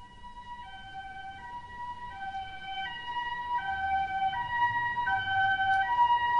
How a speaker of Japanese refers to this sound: 私は夢うつつの中で救急車のサイレンを聞いた。